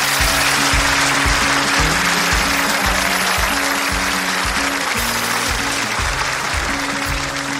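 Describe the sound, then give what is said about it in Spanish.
Loud, sustained audience applause for a young boy fills the whole stretch without letting up, with a pulsing, bass-heavy music beat running steadily underneath. “Un aplauso para él, ¿no?”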